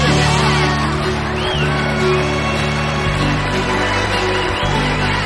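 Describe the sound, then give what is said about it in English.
A church audience cheers and applauds loudly and without a break after a marriage proposal is accepted, with whoops and shouts rising above the dense clapping of a large indoor crowd. “Their children run from the stage, and they all hug amid the applause from the church.”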